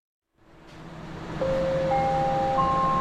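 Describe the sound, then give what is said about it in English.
A rising three-note SkyTrain departure chime in Metro Vancouver, signalling it's time to go, sounds over the steady rumble of rail cars, each tone entering in turn and ringing on together, loud. “Now that might be a familiar sound to anyone who's ridden the SkyTrain here in Metro Vancouver. The chimes signal it's time to go, to get to where you need to be.”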